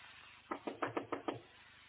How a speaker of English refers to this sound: Somebody knocking on the phone.